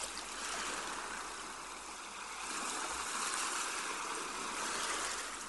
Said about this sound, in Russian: Когда стихнет шум прибоя, вы окажетесь в состоянии глубокого гипнотического сна.